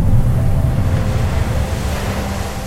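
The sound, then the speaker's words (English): Steady, loud churning of foamy ocean surf against cliffs below a coastal road on Molokai, a dense roar with deep low rumble and hissing spray, mixed with some wind noise and no distinct individual wave breaks or voices. “Sometimes all you see is a cliff on one side and a drop-off into churning, foamy ocean on the other.”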